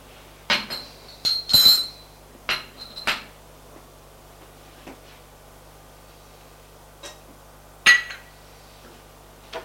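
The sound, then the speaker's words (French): A handful of sharp knocks and clinks as a can of cola, a plain yogurt pot and a spoon are set down on a hard tabletop, clustered early, then a couple of isolated taps later. No voices. “Met tout ça sur la table.”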